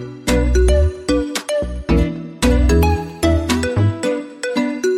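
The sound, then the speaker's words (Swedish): A loud mobile phone ringtone plays a bright, bass-heavy melody in short repeating phrases, looping roughly every second for the whole stretch with no voices over it. “nu får du stänga av din telefon.”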